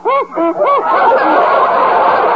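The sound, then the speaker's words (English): A dog, Bowser, sniffing eagerly at a box of Barker's dog biscuits held in a hand: a few short, whiny voiced snorts, then a steady, loud stretch of breathy snuffling with no speech. “Just listen to Bowser sniff that locked-in goodness.”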